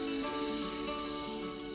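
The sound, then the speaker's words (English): Steady hissing fizz as a little vinegar is poured into baking soda for an experiment, a dense crackly sizzle of tiny bubbles that holds fairly constant, with no talking. “It's so fizzy. It looks like soda.”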